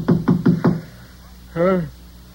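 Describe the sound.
Four quick, firm knocks on a hotel room door at the Providencia Hotel at 6 a.m., in a steady rhythm, followed after a short pause by a brief voiced call from a person.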